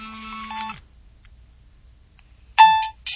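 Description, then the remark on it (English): A stock mobile phone ringtone that came built into the phone plays in bright, tonal electronic bursts: a sustained chime phrase, a pause of near silence, then the melody starts again loudly and cuts off. “This one that came with the phone.”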